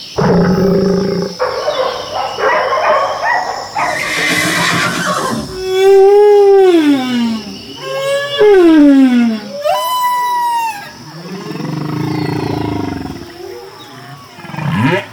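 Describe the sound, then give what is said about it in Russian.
Humpback whale song: a continuous series of long, eerie moans and sliding whoops, some sweeping downward, others rising to high squeals, loud with no voices. “Эти нежные звуки издает чудовище по имени горбатый кит.”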